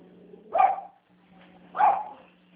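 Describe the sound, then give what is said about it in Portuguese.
A dog barks twice, about a second apart, each bark sharp, over a low steady hum with no talking. “pega o cachorro aqui, cara.”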